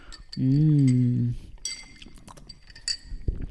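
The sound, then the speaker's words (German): A long drawn-out voice rings out, then glasses of a non-alcoholic drink clink together a few times in a toast, leaving short bright ringing tones, followed by faint rustling and a soft knock. “Wir können jetzt auch einfach einen trinken. Prost.”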